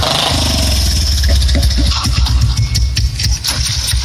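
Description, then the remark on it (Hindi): A motorcycle engine runs, a steady low rumble with uneven revving pulses and some clattering noise over it, loud throughout the short stretch; the motorcycle is one given as dowry. “हई मोटरसाइकिल दहेज वाला दे द फेर तहार बियाहवा कट गई”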